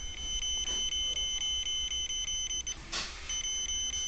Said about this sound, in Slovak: My si teda ten zvuk zapneme. Postupne približujem detektor bližšie a bližšie k bezrotovej kamere a postupne mi začne ten detektor pípať.